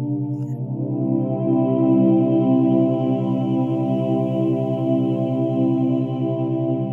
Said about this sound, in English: The music you are hearing contains tones that will assist you into a deeper state of meditation.